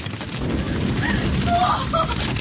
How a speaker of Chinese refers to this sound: 这个时候天色已经大亮了，罗德一家人拼了命的逃。突然身后响起一阵阵的爆炸声，好可怕呀，一股股的浓烟夹杂着灰尘不断的飘洒下来。